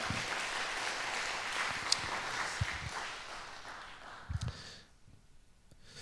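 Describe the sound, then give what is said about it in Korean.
A church audience claps in encouragement in a dense, steady burst for about five seconds, a few louder claps standing out, before the applause fades away abruptly. “예, 격려의 박수 한번 부탁드립니다.”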